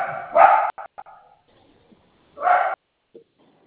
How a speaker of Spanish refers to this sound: escucho sonido de perro ahí.